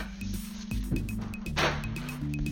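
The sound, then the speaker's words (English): Paper is set down on a screen-printing drying rack: a brief soft rustling swish midway, with a few light clicks and taps, over a steady low mechanical hum. “now putting my paper on my drying rack.”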